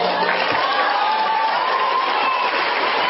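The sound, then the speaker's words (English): A crowd cheers and applauds steadily throughout, a dense, unbroken wash of clapping and shouting voices with a few higher whoops rising above the noise. “Listen to the cheers.”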